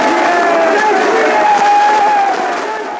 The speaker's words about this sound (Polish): przekrzykując wielotysięczny tłum